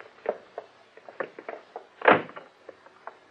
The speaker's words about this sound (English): It is almost 3:30 in the morning. The street is dark and silent. Suddenly, a car swings around the corner and pulls up in front of the building.